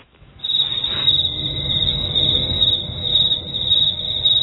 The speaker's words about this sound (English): There he goes. How rude of him to walk out on the crickets like that.